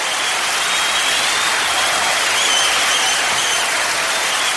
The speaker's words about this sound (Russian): Дальнейшие слова форварда пропали в реве восторженной толпы.